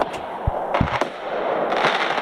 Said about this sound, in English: Firecrackers, fireworks. Firearms? Yes. I believe so. Buddy. Definitely some fireworks. There are plenty of fireworks. More than I expected.